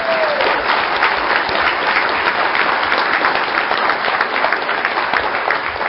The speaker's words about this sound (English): I don't know if you noticed, periodically, they said, thunderous applause, right? We need to hear some thunderous applause. Now, come on.